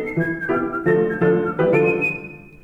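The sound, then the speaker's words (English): Several people whistle a bright tune in short stepped notes that ends on a long held pitch, fairly loud, with soft musical backing underneath and no talking. “We whistle and we hum, beat time with the drum.”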